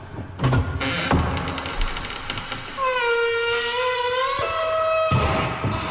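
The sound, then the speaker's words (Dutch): The heavy door of Paal 13 is swung shut: a few loud knocks and rattles, then a long, high metallic squeal of the hinges that jumps in pitch before a final solid bang. No one speaks. “Ik zal die deur weer even dicht gooien.”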